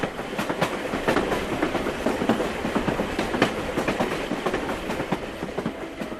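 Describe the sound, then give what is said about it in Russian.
A train carriage bound for Moscow rolls steadily along the rails late at night, with a continuous rumbling hum and frequent sharp clicks and clacks from the wheels, heard from inside the carriage at a fairly even, moderate loudness. “Сели в поезд. Поздно. Мы только вдвоем в вагоне”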